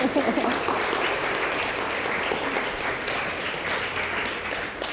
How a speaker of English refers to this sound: Well, I think she deserves a clap, isn't she? Absolutely brilliant.